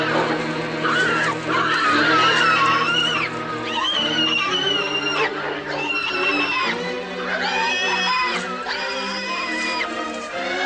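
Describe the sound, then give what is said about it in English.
A brown and black mottled piglet, hoisted by a rope noose from a pack of hogs, squeals over and over in shrill, high-pitched bursts, loud and continuous for about ten seconds, with brief breaks between the cries and no talking. “Pulling hand over hand, he slowly raises a small pig from the pack.”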